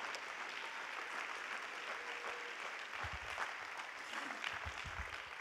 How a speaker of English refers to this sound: And one more time, let's clap our hands to the Lord and give God praise.